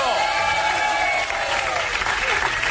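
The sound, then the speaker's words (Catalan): Steady, loud audience applause fills the whole stretch, a dense crackle of many hands clapping at once, with cheering voices rising through it. “Aplaudiu, que no sabeu de quin mal haureu de morir.”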